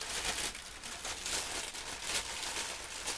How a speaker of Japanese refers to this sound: ちょっとガサガサうるさいから一度袋から出すね。